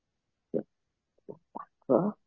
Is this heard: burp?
yes